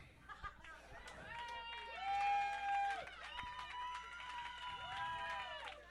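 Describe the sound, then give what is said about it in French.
An audience applauds, with steady clapping overlaid by rising and falling cheers and whoops from the crowd, moderately loud and sustained across the whole stretch. “C'est ça que vous appelez des applaudissements?”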